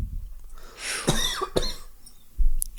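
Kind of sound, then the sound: human body sound, coughing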